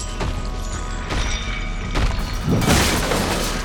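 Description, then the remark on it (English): A table is knocked to the side by a swipe of a griffin's mammoth talons: a few heavy thuds land about a second apart, then a loud, sustained crash with rattling, clattering debris. No voices. “With a swipe of its mammoth talons, the griffin knocked the table to the side.”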